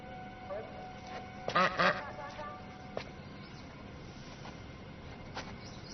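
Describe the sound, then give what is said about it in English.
A duck quacks in a quick burst of loud, raspy calls near the middle, followed by a few fainter, scattered squawks over a steady background hiss. “Calm down. It's just a duck.”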